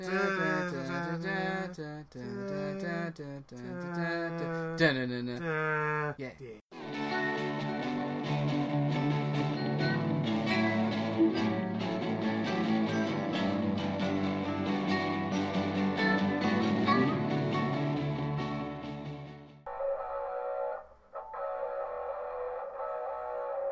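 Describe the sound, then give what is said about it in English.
A jaunty electric keyboard tune plays the familiar keyboard cat meme melody, opening with bright sustained notes before a fuller, busier stretch of music fills the rest, loud. “Play us away, keyboard cat.”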